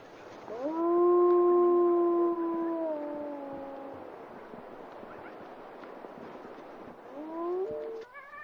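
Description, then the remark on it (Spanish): Wolves howl: a long, clear, sustained howl that swells and slowly sinks over a few seconds, a quiet pause, then a second howl starting to rise near the end. No one speaks. “Así que los lobos tienen que conformarse con la presa de anoche.”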